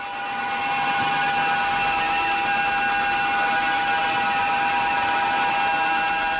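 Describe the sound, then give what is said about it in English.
A sustained, grating wall of guitar feedback drones without a break, with piercing steady tones stacked over a harsh, noisy hiss. It stays loud and unchanging from start to finish, with no voices. “Yeah, vinyl album sides of each of 21 minutes long of nothing but grating, screeching feedback.”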